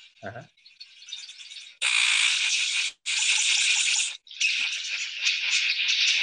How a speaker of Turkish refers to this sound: Çok güzel. Hakikaten farklı bir kuş. Ve sekreter kuşu galiba.